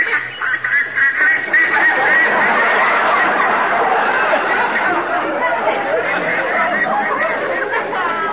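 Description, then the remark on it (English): A large flock of ducks flying overhead in a V formation, quacking all at once, a dense, continuous clamor of overlapping nasal calls that stays loud and steady for several seconds with no voices speaking. “Ducks have got no right to fly in a V formation while there's a war on.”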